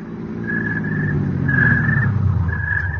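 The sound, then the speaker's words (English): A car engine rumbles steadily and grows a little louder as the car carrying Edwards and the servants drives up, with short, repeated high tones sounding over the motor. No one speaks. “I was getting back into my car. Edwards and the servants drove up.”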